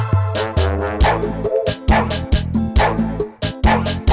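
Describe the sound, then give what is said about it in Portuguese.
A dog named Rola barks over and over in a quick, steady series of loud yaps, each bark clipped short, with no voices talking. “Esse cachorro, ele é confuso.”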